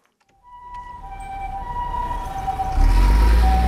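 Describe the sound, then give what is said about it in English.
Busy downtown Shanghai street noise at noon on lunch break, swelling up: a steady traffic rumble with a wailing emergency siren rising over it, growing louder by the end. “Noon, downtown Shanghai, a city of 24 million people on lunch break.”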